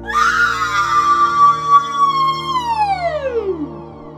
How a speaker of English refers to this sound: They delivered her via secure transfer link, and all James had to do was email her into the once mindless machinery. The first time James booted her up, she screamed.